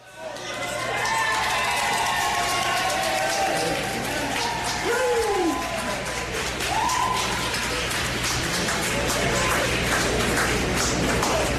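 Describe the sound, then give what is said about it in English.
A crowd of fans applauds steadily as the Dublin team arrives at the Gibson Hotel, a dense clatter of many hands mixed with scattered cheers and shouting voices, loud throughout. “And here's the Dubs arriving to the Gibson Hotel last night to, surprise, surprise, rounds of applause from the fans.”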